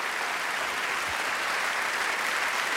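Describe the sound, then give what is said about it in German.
Steady, dense audience applause for the ARD show Extra 3, Bosettis Woche, a continuous wash of many hands clapping at an even loudness throughout, with no voices standing out. “Das ist ein Applaus, der überhaupt gar nicht so klingt, als hätten wir ihn vorher geübt oder als hätte ich ihn eingefordert.”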